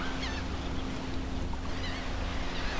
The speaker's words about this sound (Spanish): Puede oír las olas del mar y a la distancia las gaviotas cantando.